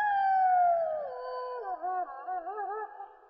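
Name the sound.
distant wolf howling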